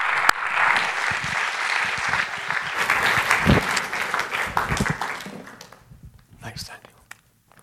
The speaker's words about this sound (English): So let's welcome him through our applause.